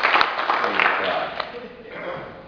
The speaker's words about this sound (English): We got to see our brother and give him a big round of applause. Welcome back, brother.